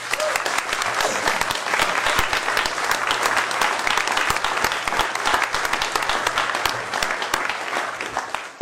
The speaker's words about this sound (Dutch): Ik wil u allen van harte feliciteren en ik vind dat dit wel een applaus waard.